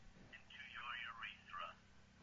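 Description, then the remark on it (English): A phone notification alert plays on a mobile phone: a bright, warbling electronic jingle of quick rising and falling tones lasting about a second and a half, clear over a low steady background hum. “That's my notifications on my phone.”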